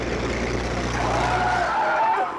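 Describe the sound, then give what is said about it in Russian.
A military car, flagged down by people on the road, brakes hard to a stop: a steady engine rumble gives way to a rising squeal of brakes and tyres that holds for about a second before the engine noise drops away. “Вы с ума сошли задерживать военную машину?”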